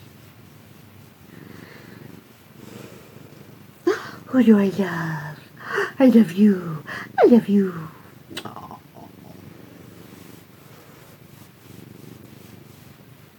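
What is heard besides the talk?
domestic cat purring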